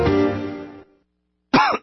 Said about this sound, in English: I am the Ricola Mystery Cougher. If you hear me coughing and offer me a soothing natural Ricola cough drop